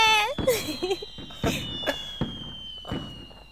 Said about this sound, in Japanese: 花火綺麗だ。 綺麗。花火綺麗。